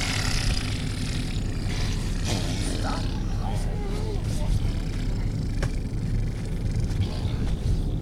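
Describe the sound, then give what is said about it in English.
Children blow loud, wet raspberries with their mouths, imitating fart noises in a continuous buzzy sputter, with squeaky voices mixed in throughout. “Now that's enough fart noises, guys.”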